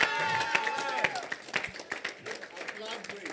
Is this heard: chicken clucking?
no